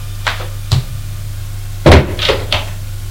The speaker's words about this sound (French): Frappe à la porte du salon.